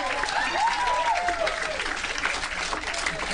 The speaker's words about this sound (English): I won't question what you guys deem worthy of applause, but I just won't.